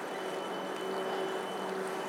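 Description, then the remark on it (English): A train sits idling at a station platform, giving off a steady, even rumble with a faint constant hum running through it. It is moderately loud, unchanging, and there is no talking. “If running the cane up the left hand side, so I don't go and walk into the train.”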